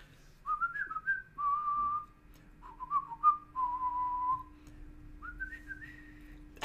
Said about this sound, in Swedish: Det tar jag med en glad vissling. Mio mi mio låten tänker jag.